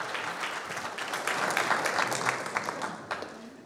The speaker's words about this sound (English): Do give him a round of applause. Thank you.